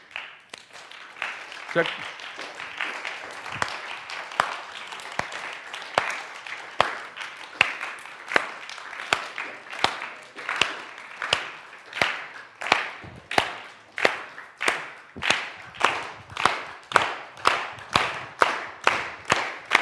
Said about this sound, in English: So let's do this. Everybody just start clapping at your own beat.